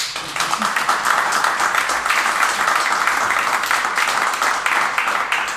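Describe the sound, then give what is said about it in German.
A crowd bursts into sustained applause, dense overlapping claps holding a steady, loud level for several seconds with no break, full and dense. “Und das ist ein Applaus wert.”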